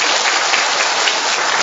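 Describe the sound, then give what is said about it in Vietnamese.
A crowd claps loudly and steadily, a dense wash of many hands applauding together throughout, with no voices standing out. “Rồi, một tràng pháo tay thật to lên thưa anh chị em.”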